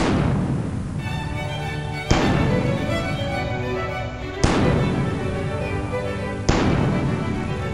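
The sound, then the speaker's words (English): Cannon theme music with cannon fire: booming blasts strike about every two seconds, four heavy hits in all, each ringing out into a sustained, music-like wash with tonal harmonics beneath. No voices are present. “Cue cannon music. Do we have a cannon theme, right?”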